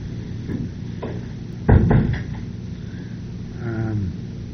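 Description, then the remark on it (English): A door swings shut with one solid thud and a brief rattle, followed by quiet room noise and a faint creaking tone afterward. “Go ahead, I'm just going to shut the door.”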